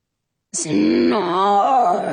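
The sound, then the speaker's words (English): A person lets out a long, drawn-out groan lasting about two seconds, starting with a sharp breathy onset and wavering in pitch as it continues steadily and fairly loud. “Snort, groans the prince, but his eyes stay closed.”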